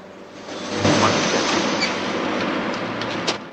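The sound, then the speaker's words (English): A loud train rumble builds quickly and holds steady as the Atlantic Express and a second train approaching from the opposite direction draw level, wheels clattering over the rails and a few sharp metallic clicks. No voices are heard. “A second train approaches from the opposite direction. As the trains draw level, Haller drops from a compartment.”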